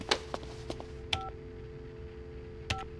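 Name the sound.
phone keypad dialing tones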